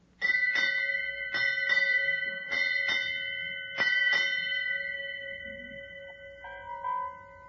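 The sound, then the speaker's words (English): A ship's bell rings eight times in four quick pairs to mark the change of the watch, aboard a ship in fog, each pair of clear metallic strikes leaving a long shimmering ring, followed by a fainter answering chime at the end. “Will you strike 8 bells, mister?”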